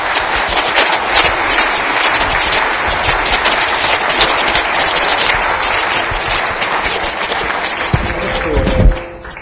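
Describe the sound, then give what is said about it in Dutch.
Sustained audience applause for two people at a programmed event, a dense steady wash of many hands clapping for the full length, loud and even, with a brief louder burst near the end. “Ik vraag een hartelijk applaus voor deze twee.”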